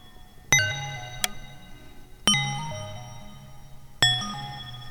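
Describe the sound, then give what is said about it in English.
Three bright, struck bell tones ring out at steady intervals, each decaying slowly with shimmering overtones, plus a brief extra ping after the first, over a soft low pulsing tone. “Now, the other thing that is interesting is the bells. Let's get some bell action going here.”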